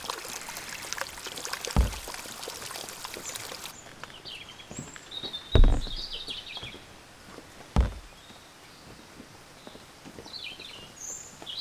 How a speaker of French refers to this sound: Et les oiseaux, putain d'oiseaux qu'on aimait pourtant bien, qui rient et célèbrent notre fin prochaine.